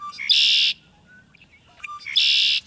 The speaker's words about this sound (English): How about a solo from the red-winged blackbird?